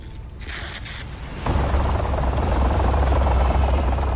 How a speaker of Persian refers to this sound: هلیکوپتر پرواز کرد.